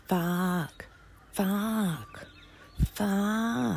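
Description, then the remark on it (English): A man's voice imitates a crow, giving three loud, drawn-out, nasal caws spaced evenly apart, each one harsh and sustained. “I reckon crows sound like this”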